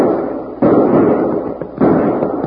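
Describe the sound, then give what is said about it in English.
Two loud gunshots fired by Bill ring out a little over a second apart, each a sharp crack followed by a long, noisy rumbling decay. No one speaks. “That must be Bill shooting.”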